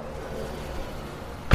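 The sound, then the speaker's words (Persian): A steady low rumble of background noise, then a single sharp, loud thud right at the end, like a car door being shut, as someone gets back into a car parked on Italia Street near a dead-end alley. “راهمو کچ کردم و برگشتم توی ماشین، منتظر نشستم تا اونا برن.”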